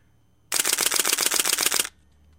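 A camera shutter fires in a rapid burst at 8 frames a second, about a dozen sharp, evenly spaced clicks over roughly a second and a half, loud and crisp with no voices.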